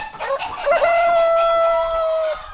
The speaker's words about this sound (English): Another thing I failed at is keeping the chickens out of the barn, as you can see. They're so dumb. They just, any little thing will set them off.